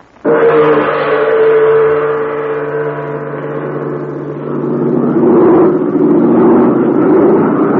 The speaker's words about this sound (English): Yes, that's Jude Hennick's big American-made plane. The plane he flies for the Chinese Army.